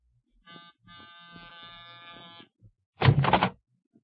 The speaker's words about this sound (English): You're the manager, fella? That's what it says over the buzzer you've been leaning on.